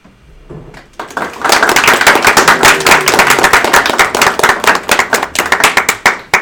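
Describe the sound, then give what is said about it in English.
A group at a meeting breaks into sustained applause as the ombudsperson is let back in, many hands clapping in a dense, steady patter that starts abruptly after a quiet moment and continues loudly throughout. “And we all clap when she gets in.”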